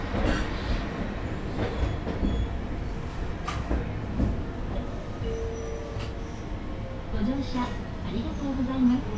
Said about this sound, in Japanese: この電車は運動公園前行きです。途中事故防止のためやむを得ず急停車することがありますからご注意ください。